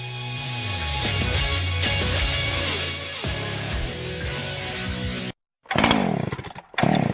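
A chainsaw engine roars loudly and steadily for several seconds, its pitch wavering, then cuts out briefly before revving back up in short bursts with another brief drop.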